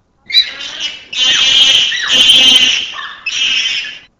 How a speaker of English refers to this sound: Number 22, a copulation squeal performed by a female infant.